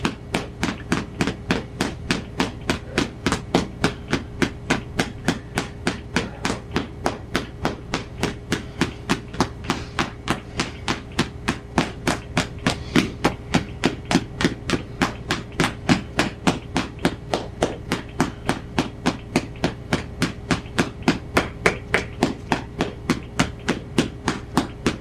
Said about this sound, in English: Right now we're doing it with the hammer.